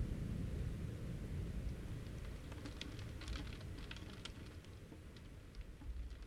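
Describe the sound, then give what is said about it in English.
Steady rain patters on city pavement, heard through a cracked-open window, a dense low wash with scattered sharper drips and splashes ticking above it, continuous throughout, with no voices. “The sound of rain against the pavement, dampening the city's noise, creating a false sense of stillness.”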